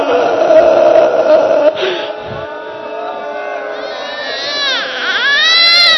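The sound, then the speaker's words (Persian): A baby wails continuously in loud, strained cries that rise and waver in pitch, growing more piercing toward the end, over a murmuring crowd in the background. “اشکش داره بیا بچه ها رو ببرید، مادراشون نگرونن.”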